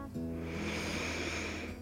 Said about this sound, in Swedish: Gör dig beredd, gör dig redo, gör dig bekväm, så ska vi börja. Ta ett djupt andetag in.